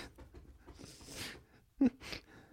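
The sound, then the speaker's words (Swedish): A male dog scratches itself, a run of quick rhythmic scuffing and thumping mixed with soft panting breaths, fairly quiet overall with one brief louder bump near the end. “Min hund kliar sig. Han har aldrig kliat sig så här länge någonsin, tror jag.”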